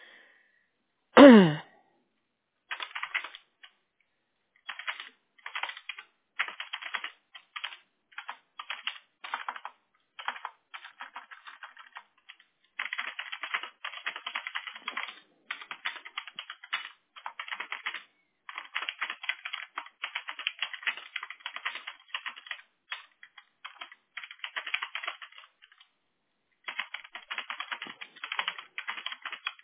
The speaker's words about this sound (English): Okay. I'm just typing in everything.